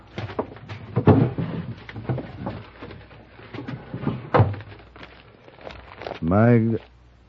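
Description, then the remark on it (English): The top drawer of a desk slides open with wooden clunks and knocks, followed by papers rustling and being shuffled, ending in a brief rising squeak. “Look in the top drawer of the desk there. You'll find the papers on the prisoner.”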